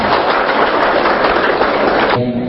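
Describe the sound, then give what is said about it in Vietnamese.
An audience at a Buddhist dharma gathering applauds in a loud, dense wash of steady clapping for about two seconds, then it cuts off abruptly and a quieter tone lingers at the end. “Xin tán thán chung cho chàng pháo tay hay là Phật.”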